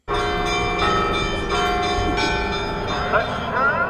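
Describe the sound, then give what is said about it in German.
Church bells peal loudly and steadily in the Old City of Jerusalem, overlapping strikes arriving in a quick, regular rhythm with a rich, ringing resonance that fills the whole moment. “Kirchenglocken, Muezzinrufe und jüdische Familien, die ausgelassen tanzend Bar Mitzwa feiern.”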